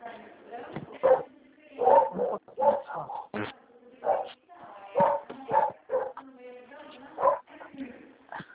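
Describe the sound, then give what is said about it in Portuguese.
A dog barks repeatedly at a country property, in short, uneven bursts, moderately loud, with brief pauses between the barks and no clear talking over them. “Levar o cachorro do veterinário.”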